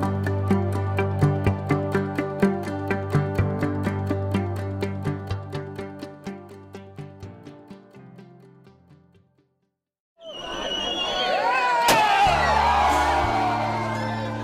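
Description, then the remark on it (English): Rhythmic, steady tonal music plays and fades, then after a brief silence a crowd of naked people running at night at the Ligwa summer festival in Latvia erupts in loud, overlapping screams, whoops and shouts with wavering high-pitched voices. “Summer festival of Ligwa in Latvia might look like a group of naked people running and screaming in the dead of night, but it's one of the country's deepest rituals, inspired by a homegrown brand of paganism.”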